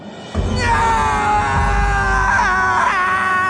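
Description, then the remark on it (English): A single voice, the character Brown Limper, lets out a loud, drawn-out scream of rage lasting about three seconds, strained and wavering in pitch, with nothing else behind it. “Brown Limper screamed.”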